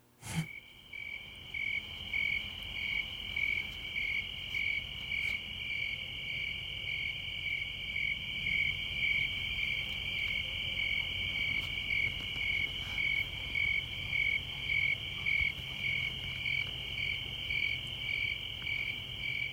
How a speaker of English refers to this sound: Crickets. That about sums up the news, right? Yeah. Like, it is cricket season here in North Idaho, which is not, I don't know when that officially starts, but I have certainly started noticing them when I step outside in the evenings.